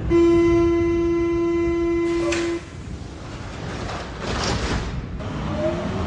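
A subway train departs the platform of the Schlossstraße U-Bahn station, opening with a loud, steady tonal whine that cuts off after two seconds, followed by a rushing, rumbling roar as the cars pull away.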